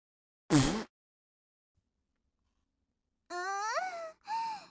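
One loud, short, raspy fart burst rips out, followed by a few seconds of silence and then a woman's breathy, wavering moans and sighs.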